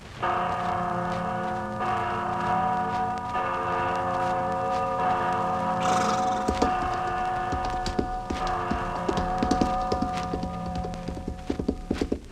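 The Freedom Bell, a large bell, rings with deep, sustained overtones that linger throughout, and partway through, rhythmic clip-clopping hoofbeats join in beneath the lingering toll.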